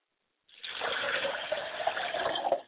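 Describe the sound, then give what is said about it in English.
Liquid being poured as a ritual libation to the North, in a steady stream for a few seconds, a continuous splashing gush that starts abruptly and trails off, with no voices. “I pour libation finally to the North, and I call on Dr.”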